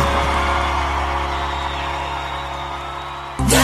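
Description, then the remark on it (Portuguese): A loud, dense roar of Brazilian football fans cheering and whooping during the World Cup, holding steady for a few seconds before cutting off abruptly near the end. “A maior torcida do mundo se encontra na maior audiência.”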